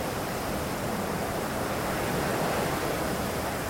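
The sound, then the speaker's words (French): Strong wind roars over rough surf on a beach on a cold day, with blowing sand, a steady, dense wash of noise with no pauses, loud throughout, with no voices. “il y a du vent, il fait froid, il y a des vagues vraiment mauvaises.”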